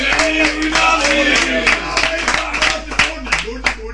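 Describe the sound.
A crowd applauds with dense, steady clapping, loud voices shouting and cheering over it, and a few sharper claps standing out near the end.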